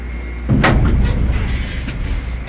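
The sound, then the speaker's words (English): A heavy metal cage door slides shut with a loud clattering bang as tunnel workers in the cage start going down a shaft, followed by a low mechanical rumble and faint rattling that continue steadily in the background. “Back door's closed?”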